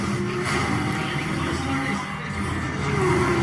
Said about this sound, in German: So, gucken wir uns doch schnell den Forza 5 Trailer an. Ah, Spiele. Rom? Oder wo ist das? Ja. Zwei Autos in einem Rennen.